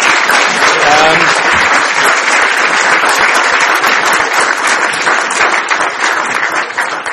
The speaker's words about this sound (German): Herzlich willkommen. Das ist mal Ihr Applaus, Ihr Willkommensapplaus.